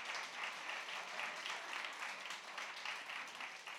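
A crowd applauds steadily, a dense wash of many hands clapping at once that holds an even level for the full few seconds, with no voices standing out.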